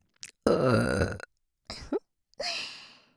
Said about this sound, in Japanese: 私みたいなゲップに理解ある人に出会えてさ、普通他の人に言ったら絶対ドン引きされるよ。こんな風にオナニーのためにゲップしてくださいってさ。